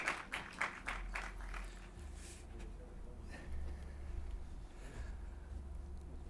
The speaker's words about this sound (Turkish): Alkışlarınızla Podcast Festivali sahnesindeler.